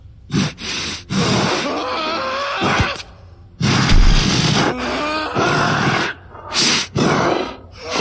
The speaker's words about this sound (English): Then, only the grunts of the beast remained.